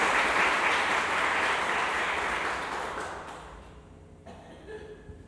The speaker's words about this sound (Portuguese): Vamos aplaudir a palavra do Senhor. Intensamente. Muita alegria.